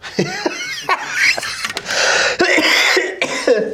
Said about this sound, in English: There's that cough of mine.